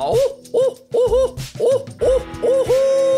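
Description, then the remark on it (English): A person imitates a barred owl's call, a rhythmic series of about seven rising and falling hoots delivered loudly, ending in a longer drawn-out note. “I'm going to hoot like a barred owl, okay?”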